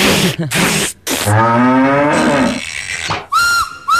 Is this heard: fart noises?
no